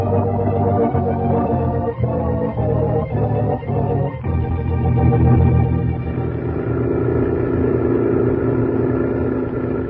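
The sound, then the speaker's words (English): A truck engine drones steadily and loudly, a deep continuous rumble with a slight shift in tone partway through as the truck keeps driving through the desert with its headlights tilted up. No one speaks. “He's tilted up the headlights on the truck.”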